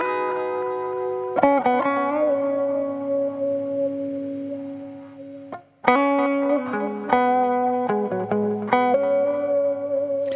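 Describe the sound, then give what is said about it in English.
A distorted lead guitar plays long, sustained notes with a few sharp new attacks, each trailing off into soft repeating echoes from a timed tape delay and a wash of reverb. No one speaks. “In this case, that was a timed tape delay that just rounds everything off and makes it sit nice in the mix at the background.”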